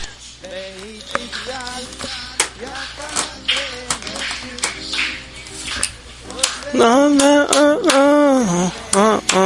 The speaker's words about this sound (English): Now we really need to be precise with that clap with the words in the syllables.